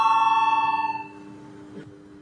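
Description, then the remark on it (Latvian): A parliament voting bell, rung before a vote on proposal 22 by deputy Viktors Valēnis, sounds in a single steady burst of about a second, bright and metallic with a fast buzzing tremble, then fades into a quiet hum of room noise. “Lūdzu zvanu, balsosim par 22. deputātu Valēņa priekšlikumu.”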